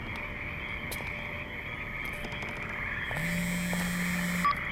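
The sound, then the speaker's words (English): A dense chorus of frogs croaking and trilling, steady and layered throughout, with a low droning tone joining in near the end and a brief sharp chirp. “You hear the fucking frogs? They're everywhere.”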